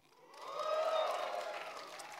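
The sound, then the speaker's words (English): A crowd breaks into cheering and applause for God's word as Bibles are opened to 1 John chapter 4, swelling quickly to a loud, dense roar of voices and clapping before easing off slightly, lasting about two seconds. “Yes, we cheer for God's word.”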